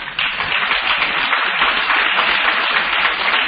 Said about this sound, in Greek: Δεν χειροκροτείτε εμένα τον Κοσμά, τον Εντολό, ο Κοσμάς το είπε αυτό.